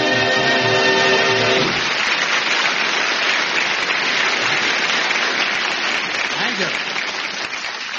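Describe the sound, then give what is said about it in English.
A band's closing chord on the theme introducing comedian Ted Ray gives way to loud, sustained audience applause, a dense wash of clapping that holds steady for several seconds before tapering slightly at the end. “Why, that's nice applause.”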